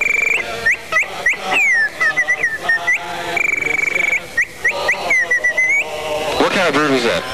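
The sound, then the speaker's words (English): A person whistles a rapid string of imitated bird calls during a New Year's Eve party broadcast on WPGC radio: high chirps, upward-swooping trills and fluttering warbles, ending in a burst of wavering, throaty squawks. No one speaks. “Somebody caught up with a really original idea of some bird calls.”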